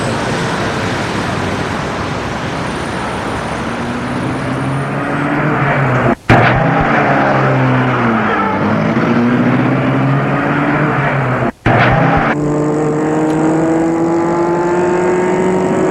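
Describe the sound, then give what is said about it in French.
The engine of a large black touring car driven by a chauffeur runs loud, its pitch climbing repeatedly as the car accelerates through the gears, with two brief cuts in the sound along the way. “Ils entrent dans la voiture, le chauffeur met les bagages dans le porte-bagages et met la voiture en route.”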